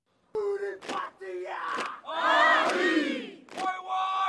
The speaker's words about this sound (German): Junge Soldatinnen und Soldaten stampfen auf den Boden, trommeln sich auf die Brust. Sie führen den traditionellen Haka-Tanz der indigenen Bevölkerung Neuseelands auf, zu Ehren der verstorbenen Queen.